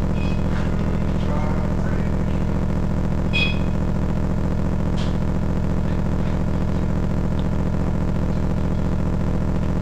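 A car engine idles steadily in neutral, a constant low, throbbing rumble that holds even for the whole stretch, with a few faint clicks and ticks scattered over it.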